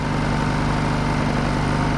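generator running

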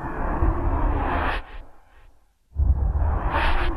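whoosh transition sound effect

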